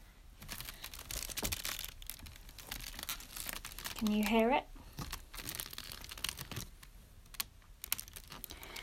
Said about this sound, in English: This week's dance idea is about exploring an object through the sounds that you can make with it. So I'm going to have a play with a creaky wicker chair that I have.